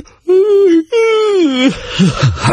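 A loud, drawn-out human yawn: two long moaning stretches with a short break between, the pitch sagging downward, trailing off into breathy, uneven exhaling.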